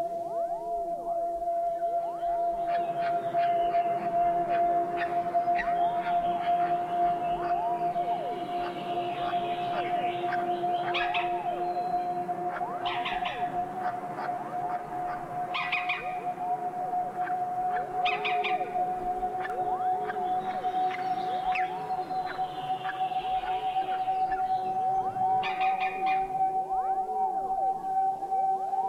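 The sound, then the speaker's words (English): Green woodpecker (Picus viridis) calls at the nest: a steady, unbroken mid-pitched droning tone runs the whole time, overlaid with repeated bursts of higher, rapid chattering notes. No one speaks. “Green woodpecker, Picus viridis, at the nest.”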